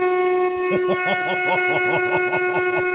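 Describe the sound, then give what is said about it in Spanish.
A loud truck horn blares in one steady, sustained blast lasting about three seconds, a bright buzzing tone with a rapid, pulsing rumble beneath it. “Pues venga, despídeme con un toque de bocina, pero bien fuerte.”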